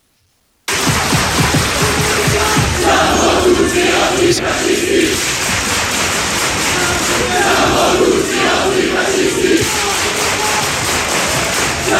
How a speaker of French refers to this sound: Et oui, c'est la foule devant, enfin la foule, ce sont sur le devant de la scène quelques-uns qui se mettent à scander « Nous sommes tous des antifascistes » à destination de François Ruffin